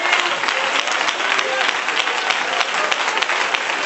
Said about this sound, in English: Oh, give him a hand clap of praise together.